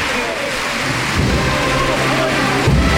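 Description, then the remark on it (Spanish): A large crowd claps steadily in a dense, continuous roar of applause as costaleros lift the Señor de Jesús procession float, holding for the whole moment, with a low rumble of outdoor commotion underneath. “Mira el aplauso.”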